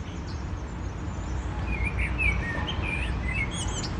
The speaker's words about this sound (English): isn't it amazing to hear a blackbird singing in January?